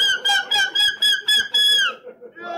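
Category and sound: vocal imitation, human imitating seagull call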